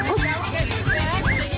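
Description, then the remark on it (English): Dogs barking and yelping in a quick, agitated series of sharp, rising calls over a noisy background with indistinct voices. “Are you telling the dogs to bite the”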